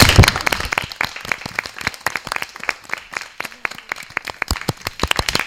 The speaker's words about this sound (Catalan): Doncs, sí, va, un altre aplaudiment, va, que estem d'aplaudiments aquí.